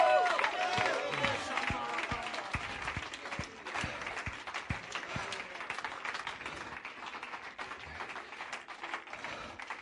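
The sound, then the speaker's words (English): A church audience claps hands and shouts together, a dense, lively wash of clapping with excited voices rising over it, steady and fairly loud throughout. “You ought to get up and clap your hands. You ought to shout.”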